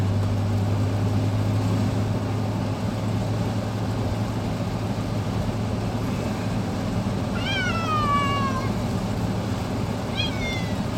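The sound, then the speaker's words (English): A cat meows twice, a long drawn-out falling cry followed by a shorter one, clear over a steady low engine-like hum. “Those bloody cats.”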